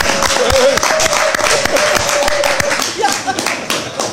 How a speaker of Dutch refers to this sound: Vanavond is de raad hier van harte gefeliciteerd met dit besluit. Alsjeblieft, vandaar. Dan... Mogen we voor de radio klappen?